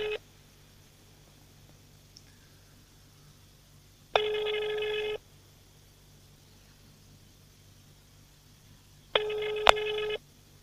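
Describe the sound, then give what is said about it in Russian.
A phone call to the official representative of the president rings out unanswered, the ringback tone sounding in three roughly one-second bursts separated by long silent pauses, clear and steady over faint line hiss. “Вбили телефон и не берут.”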